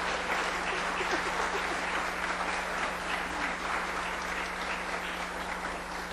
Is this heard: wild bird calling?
no